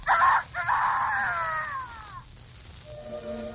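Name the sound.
rooster crowing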